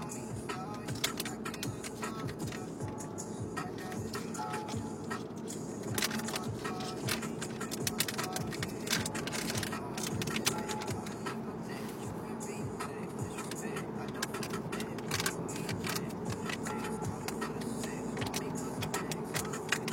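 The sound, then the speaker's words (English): Persistent crinkling and rustling of a plastic beef jerky bag being pulled and twisted in an unsuccessful effort to tear it open inside a car, with a low, steady vehicle rumble underneath. “Originally, I was just going to get beef jerky, and I thought, this seems strange. Of course, I can't actually get it open.”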